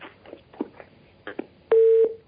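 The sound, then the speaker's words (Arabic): A caller's phone line disconnecting during a call-in broadcast: a few soft clicks and crackles, then a single loud, steady busy-signal tone that holds for about a third of a second before cutting off. “طيب انقطع الاتصال.”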